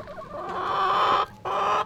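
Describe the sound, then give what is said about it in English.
Chickens clucking in a chicken coop during morning chores of gathering eggs, with two drawn-out, squawking calls in quick succession, the second starting after a brief pause. No one speaks. “After morning circle are chores, gathering and cleaning eggs and the chicken coop, and then working on the land.”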